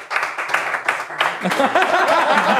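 A small group of people clapping in quick, irregular bursts, with excited voices rising over the applause in the second half.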